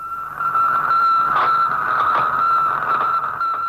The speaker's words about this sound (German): Ab dem 4. Oktober 1957 war aus der Erdumlaufbahn auf Kurzwelle 3 Wochen lang ein Piepsen zu hören, gesendet vom ersten Satelliten der Welt, dem Sputnik 1 aus der Sowjetunion.